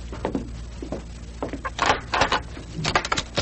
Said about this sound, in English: open the door, but stay behind it. And slug whoever steps into the room.